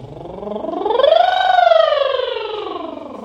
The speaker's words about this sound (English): And let's use those sounds, either the lip trill or the tongue trill, to send your sound and your voice up through your range and then down to the very, very bottom. Something like this.